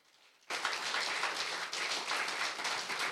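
An audience at a church service bursts into applause for God after a brief quiet moment, many hands clapping in a dense, steady roar that stays loud and even throughout, with no one speaking.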